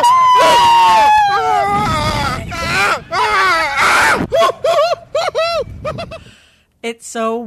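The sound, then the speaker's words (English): Several people scream loudly, overlapping in a dense burst at first, then breaking into short, separate high-pitched shrieks with brief gaps of quiet between them. “and even funny to hear these kind of disembodied screams.”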